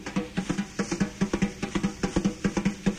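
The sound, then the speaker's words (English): Wire brushes play a steady, quick rhythm on a drum, a run of soft swishing taps with a slight tonal ring, repeating evenly for a few seconds without any talking. “Now, in my hand, I'm holding wire brushes, and you can see that these are wire brushes by the sound, because the wire brushes can use with so many different effects.”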